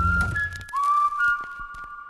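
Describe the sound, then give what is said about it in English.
A person whistles a wavering tone, sliding up then holding steady, with sharp mouth clicks scattered through it, mimicking how Sacha Baron Cohen speaking German sounds. Fairly loud, with a brief low thump at the start. “And so then Sacha Baron Cohen, my comedy idol, looks at me and just speaks to me in German, which to me sounds like a series of whistles and clicks.”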